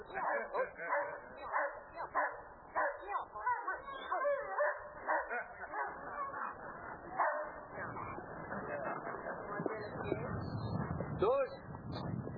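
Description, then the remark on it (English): A dog barks rapidly and aggressively as it chases and seizes a running man wearing protective clothing, loud repeated barks and snarls that blur into a noisy scuffle toward the end, with a man's voice mixed in. “And the dog has him.”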